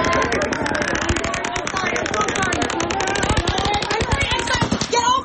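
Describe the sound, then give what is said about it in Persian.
Rapid automatic gunfire crackles in long, continuous bursts of sharp, closely spaced shots, steady and loud across the whole stretch, with a faint wash of crowd noise underneath; a 64-year-old man firing from the 32nd floor of a hotel onto a concert crowd of 22,000 in Las Vegas, United States, on a Sunday night. “یک مرد 64 ساله با 10 شاجور گلوله از طبقه 32 یک هتل بالای جمعیت 22 هزار نفری شلیک کرد.”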